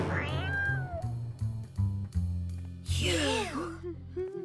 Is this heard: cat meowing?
yes